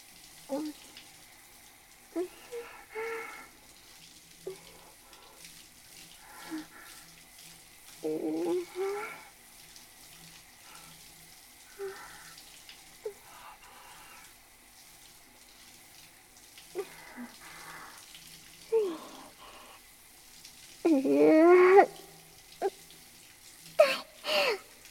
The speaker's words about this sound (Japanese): 頭からシャワーかぶるとなんだか気持ちよくなってきたかも。もうずっとあったかいシャワー浴びてたい。